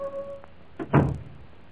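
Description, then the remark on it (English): A room door swings open on a rain-swept evening: a faint, steady creak, then a soft knock followed by a heavier, dull thud. No voices, just quiet room tone afterward. “to the 3rd of September, 1784, when at 5:30 o'clock on a rain-swept evening, the door of this very room was swung open”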